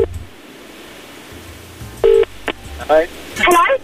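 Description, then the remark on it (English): A few short electronic keypad beeps from a phone being dialed for a third call, fairly loud after a quiet stretch, followed by brief warbling electronic chirps. “That's two calls made. Let's try number three.”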